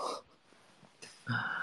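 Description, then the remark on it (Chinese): A small dog snorts and breathes, with a noisy snuffle at the start, a quick sniff midway, and a louder wheezy snort to finish, with no talking. “喜欢小狗。”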